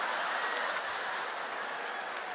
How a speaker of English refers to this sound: No. Why are you clapping? Why are you clapping? You're clapping because you feel better about yourself. That you did not write that. Or maybe you're clapping for my precious wife over here.